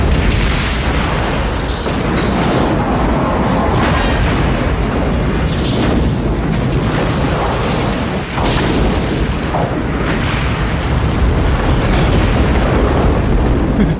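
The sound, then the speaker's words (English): A loud, sustained sci-fi starship explosion effect: a dense roaring blast that rumbles on for several seconds, with repeated booming bursts layered through a thick low-end wash and no voices. “It could become like our generation's Bird of Prey explosion.”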